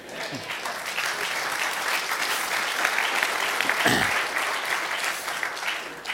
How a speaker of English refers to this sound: Applause at the end of a message. Weird, huh? I love it.